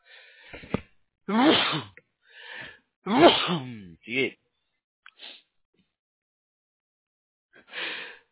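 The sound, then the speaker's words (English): A sneeze bursts out over a muffled, phone-quality line, with a few other short breathy vocal noises around it and quiet gaps between them. “Bless you.”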